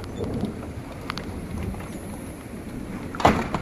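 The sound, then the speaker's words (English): Steady rain patters outdoors in a continuous hiss, broken by a few sharper drip or splash hits, one louder near the end. No one speaks. “It's still raining, but I'm not really concerned with this level of rain.”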